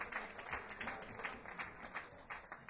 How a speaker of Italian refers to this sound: e sosteniamo i club della musica dal vivo come il Batard e tanti altri, quindi giusto, facciamolo subito l'applauso per il Batard e i grandi club della musica dal vivo.